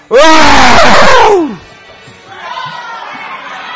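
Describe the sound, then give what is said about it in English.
A man lets out a loud, strained roar in imitation of a lion, its pitch sliding downward for over a second, followed by a softer, low vocal rumble. “Sometimes he roared like a lion.”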